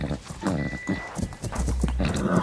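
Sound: horse hooves clip-clopping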